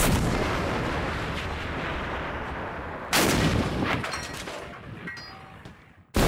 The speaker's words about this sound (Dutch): Ik zie de meester kanonier aanlopen. Hij knikt al een beetje. Hij steekt de aanstekstok in het kruidvat. Ik weet niet hoe dit heet. In het zundgat. Daar komt hij. Kanonier! Vuur!